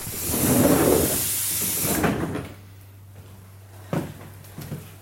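A heavy metal truck trailer door, opened from a loading ramp, rolls and scrapes open with a broad hissing rush for about two seconds, then a low steady hum remains, broken by a couple of sharp clanks near the end.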